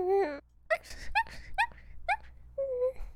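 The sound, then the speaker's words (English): A person dressed up as a puppy makes a string of high, whiny whimpers imitating a puppy, several short rising yelps followed by a longer drawn-out whine, fairly loud with no talking. “I can be a cute puppy too.”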